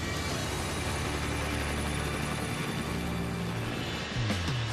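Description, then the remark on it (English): A helicopter lifts off en route to a point called Lockheed River, with a loud, steady roar of engine and rotor, its low droning hum holding constant before dipping and rising in pitch near the end. “The helicopter lifting off.”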